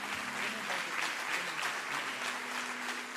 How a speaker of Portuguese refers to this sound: Aplauda Jesus o mais forte que você puder.